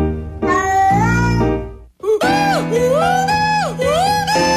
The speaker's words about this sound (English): Now, if you're curious, that's a howling cat that he took and turned into a sad song, while this kitty cat is warbling a waltz.